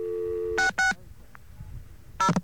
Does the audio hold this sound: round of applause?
no